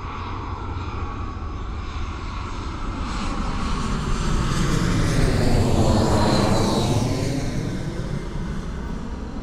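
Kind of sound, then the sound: vehicle, planes flying overhead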